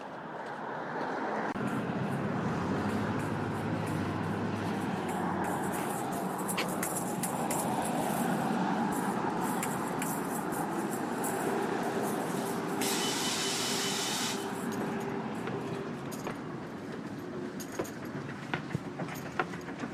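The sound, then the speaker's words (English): A number 3 city bus rumbles past without stopping, its heavy engine drone steady for several seconds, with a brief hiss of air partway through amid ongoing street traffic. “And this one didn't stop because he was late on his schedule.”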